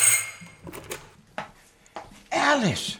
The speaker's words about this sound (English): Half an hour later, the doorbell rang.